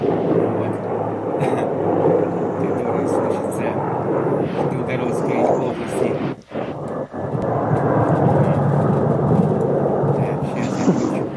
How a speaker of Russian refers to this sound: Вот, кстати, сейчас летит вертолет, вон он! А, слышу, да, слышно. Вот, за что таким-то образом приносим извинения, собственно говоря, такой шум, вот, и шум вертолета.